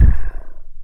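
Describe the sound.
A voice imitates a covey of quail flushed by a hunting dog on a farm: a loud, low whooshing burst that fades into a rapid, fluttering whir, with no words spoken.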